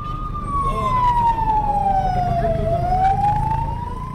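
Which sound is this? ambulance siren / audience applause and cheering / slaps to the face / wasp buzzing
ambulance siren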